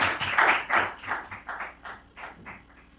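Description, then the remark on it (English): A short burst of hand clapping to thank two young neighborhood activists, a quick, uneven run of sharp claps that starts strong and gradually thins out and softens over a few seconds, with no one talking. “I hear somebody clapping.”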